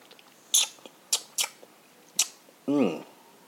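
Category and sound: food or drink, sipping a drink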